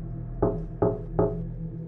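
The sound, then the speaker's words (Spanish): Three dull, hollow knocks on a car door made by a dog, evenly spaced about a second apart, moderately loud, with a low steady hum underneath and no voices. “Lo peor vino cuando pude ver que aquellos golpes en la puerta eran producidos por este maldito animal. Estaba llamando a la puerta, dando 3 golpes cada ciertos segundos.”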